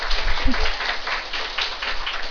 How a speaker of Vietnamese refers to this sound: Quý vị có đồng ý không? Nếu mà quý vị đồng ý, xin vỗ cho Tràng pháo tay.